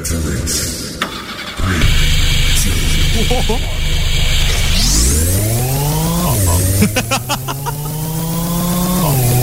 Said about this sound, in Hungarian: Na mindegy. Indul a mosógép autó.